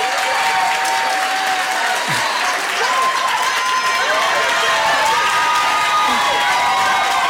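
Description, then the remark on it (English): A crowd applauds steadily and loudly for several seconds, with scattered cheers and whoops rising over the dense clapping throughout. “Now you gotta applaud my lower back pain and my wonky hip too now.”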